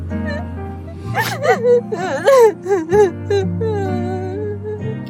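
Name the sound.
person whimpering and crying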